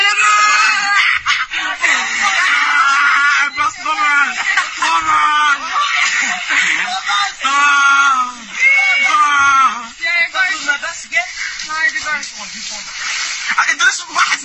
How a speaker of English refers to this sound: There's a Swedish boy being harassed by, look at these, like, I won't even say animals. Again, mutant migrants that are, like, out just screaming and kicking and beating this Swedish kid here.